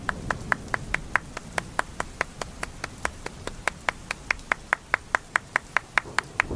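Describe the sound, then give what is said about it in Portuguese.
A young boy claps his hands quickly and steadily, about four sharp claps per second with an even rhythm, over a faint low background hum and no talking. “O menino mais novo bateu palmas.”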